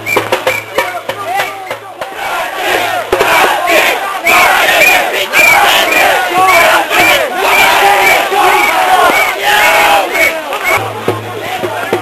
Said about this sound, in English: Currently doing some more Zig Heil, and you really can't really hear what they're saying over the crowd noises.